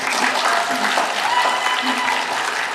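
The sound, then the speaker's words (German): Steady applause with scattered cheering from supporters of the G9 citizens' petition in the visitors' gallery at the end of a speaker's speaking time, a dense, continuous wash of clapping at an even loudness throughout, with faint voices mixed in. “Am Ende ihrer Redezeit Jubel von der Besuchertribüne.”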